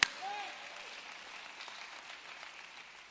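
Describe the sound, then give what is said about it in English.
A crowd gives the Lord a praise clap, a steady wash of applause that stays fairly even throughout, with a brief tonal whistle-like sound near the start. “Come on, let's give the Lord a praise clap.”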